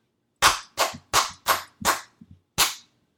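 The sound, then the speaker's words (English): Hands clap out a rhythm alone: five crisp, evenly spaced claps, a couple of quick soft taps, then one final sharp clap. No voices are heard. “You just clapped some different rhythms.”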